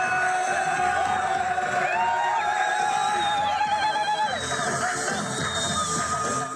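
A large crowd in Khan Yunis, Gaza, cheers and celebrates an announced Israel–Hamas deal, a dense, steady roar of overlapping shouts with high-pitched whoops and ululating cries rising above it, loud throughout the whole stretch.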